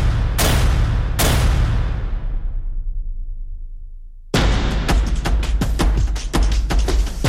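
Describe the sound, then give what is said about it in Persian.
Two loud gunshots ring out and echo away between buildings, then a sustained burst of rapid automatic gunfire crackles until the end, with no voices; gunfire in the street during the Aban crackdown on protesters. “با شلیک مستقیم به سر معترضان، به بدن شهروندان، بی پرواتر از همیشه در نمایش خشونتی اوریان، با رگبار در خیابان، تک تیرانداز بر بام”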